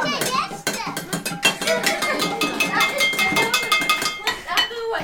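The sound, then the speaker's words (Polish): Metal kitchen pots, used as drums by a home kitchen orchestra and choir in a small room, are struck in a loud, irregular clatter of bright clanging hits, with a ladle and a small colander also handed out and children's voices chattering underneath. “Czekamy na kolejne garnki, bo to są nasze bębny.”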